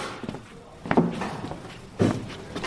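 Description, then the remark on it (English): Two slow, crunching footsteps on rubble or gravel, about a second apart, as people walk carefully through the ruins of a Roman town into a bakery, over a quiet outdoor background with no talking. “we're being quite careful about where we're treading, but here we've come into a bakery.”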